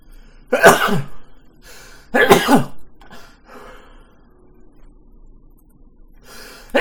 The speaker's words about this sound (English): Ooh, I just coughed up a something.